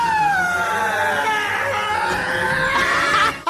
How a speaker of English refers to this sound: Okay, right, scream number two.